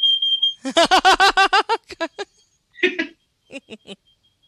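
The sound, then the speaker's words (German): A voice mimics a smoke detector, opening with a thin high whistle that breaks into a fast run of chirping beeps. A few more scattered beeps follow after a pause, fairly loud. “Manchmal habe ich als Lieblingsgeräusch einen Rauchmelder.”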